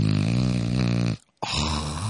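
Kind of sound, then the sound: vocal imitation, imitated snoring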